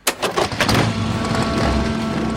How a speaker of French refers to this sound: À 18h30, 80 résistants débarquent à bord de sidecar, moto, voitures et camions à Neuvic-sur-l'Isle.